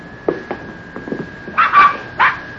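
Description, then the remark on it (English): Newborn puppies, a litter born to the hound Rube, yip and whimper in a stall: a few soft, brief squeaks followed by louder, high-pitched cries toward the end, with no talking. “That darn Rube, he went and had himself a batch of puppies.”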